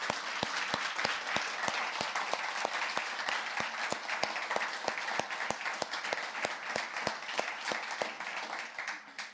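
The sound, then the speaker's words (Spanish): An audience at a church applauds steadily for about nine seconds, a dense wash of many hands with sharper individual claps cutting through at a regular beat, sustained at a fairly even loudness before tapering at the end. The applause is for a church member. “Por favor, denle un fuerte y cariñoso aplauso”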